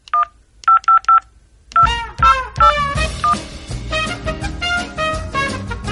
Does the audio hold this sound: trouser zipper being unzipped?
no